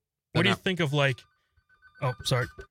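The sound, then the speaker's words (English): Connor's phone rings for an incoming call: a bright, melodic ringtone plays in two loud bursts separated by a brief pause. “Connor's getting a call.”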